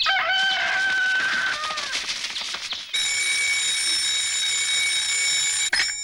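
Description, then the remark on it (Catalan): A loud rooster crow from a crowing alarm clock at sunrise is followed by several seconds of steady, shrill electronic ringing that cuts off abruptly near the end as a chick switches the alarm clock off. “El pollet apaga el despertador.”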